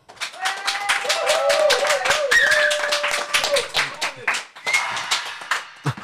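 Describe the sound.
Enthusiastic audience applause welcoming a guest, dense rapid clapping from many hands with some cheering voices mixed in, loud, tapering slightly toward the end.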